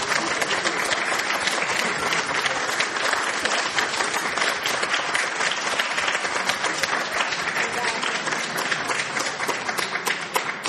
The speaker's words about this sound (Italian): È evidente che con questo applauso è finita la serata.